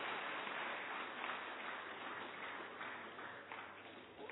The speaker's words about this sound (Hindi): ये बता दें कि आज हमारी आदरणीय शशि दीदी जी का भी जन्मदिन है, लौकिक अलौकिक, तो जोरदार तालियां उनके लिए।